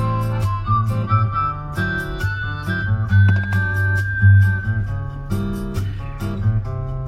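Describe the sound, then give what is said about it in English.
A thin, high whistled melody glides over a hip-hop beat with booming bass and sharp percussion hits, the whistle holding a long steady note midway through. “Yeah, the whistle.”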